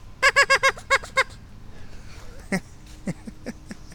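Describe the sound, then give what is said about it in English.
A duck call blown on a creek sandbar in a quick, loud burst of about seven nasal quacks, followed by a few fainter, scattered honks with no one talking. “And so does my duck call.”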